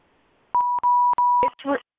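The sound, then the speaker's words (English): A conference call join tone sounds: a steady electronic beep held for about a second, broken by a few short clicks, followed at once by a brief burst of a voice. “I think somebody just came on.”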